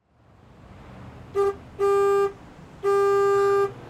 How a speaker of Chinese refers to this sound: 正好公交车来了，拽好衣服上车回家。